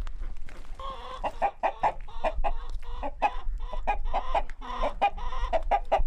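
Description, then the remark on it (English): A flock of hens, including Rhode Island Reds, lavender and black hens, clucks busily and continuously in a farm chicken pen with a rooster, short overlapping calls over a low steady rumble of farmyard background. “So I have khaki Campbell ducks, an array of hens, Rhode Island reds, a few lavender, a few blacks, and my rooster.”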